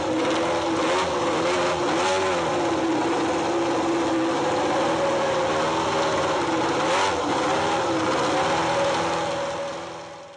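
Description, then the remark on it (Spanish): Loud, continuous engine roar from racing motorcycles at the Motorland circuit in Alcañiz, with pitch rising and falling as machines accelerate and pass, filling the whole stretch before easing slightly at the end. No voices. “El rugir de las motos ha estado sonando durante los últimos fines de semana en el circuito de Motorland de Alcañiz.”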